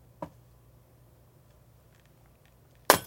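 A sound effect added while editing a video: a short electric zap, then after nearly three seconds of near-quiet a sudden bright crash of breaking glass. The effects are brief, and no one speaks.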